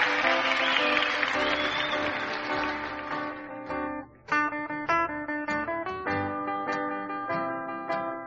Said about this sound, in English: So here they are with another great big round of applause